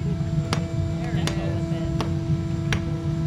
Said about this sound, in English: The molds are of sculptures that the kids created with found objects. Once the aluminum is poured and cooled, the young artists get to break the molds apart with hammers.